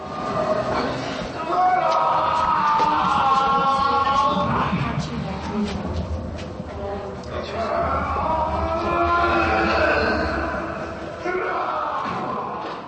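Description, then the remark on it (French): Simulated screams of torture victims, heard from below in the torture-instrument exhibition of a former detention house in Loket, rise in two long, overlapping waves of wailing, anguished voices, sustained and mid-pitched, over a low rumbling murmur that never fully fades. “Des cris simulés qui se font entendre d'en bas donnent des frissons.”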